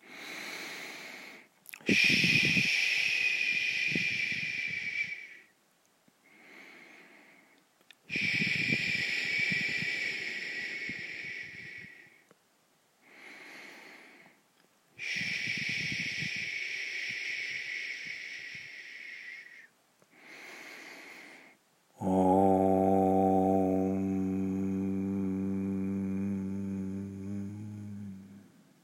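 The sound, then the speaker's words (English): Three long, hissing 'ish' exhalations, each preceded by a short inhale, followed by a single sustained, low, humming 'om' chanted by a voice that slowly fades, opening a guided visualization. “We will begin with three ishes and one om.”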